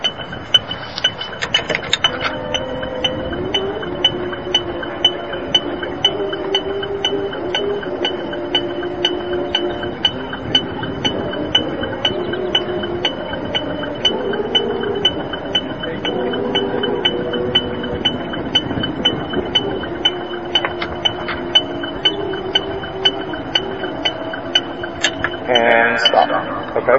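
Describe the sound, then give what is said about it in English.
A low brass player's lips buzz without a brass mouthpiece in a continuous, raspy drone that steps up and down through a series of pitches, holding steady loudness for nearly half a minute with hardly any breaks. “Take the mouthpiece off and does it.”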